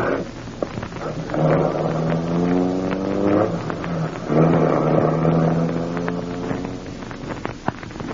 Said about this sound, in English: Harding's driving off in his car.